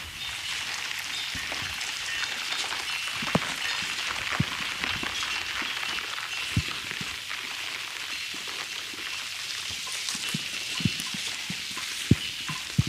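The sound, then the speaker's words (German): Steady rain falls outdoors, a constant hiss with scattered sharper drips and taps landing at irregular moments. No voices are heard. “Muss ich mal ein bisschen in den Regen gehen.”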